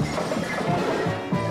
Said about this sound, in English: And then, when they both turned on me, a tussle emitted, causing total destruction of property. And like this, I knocked the tables on them. Like this.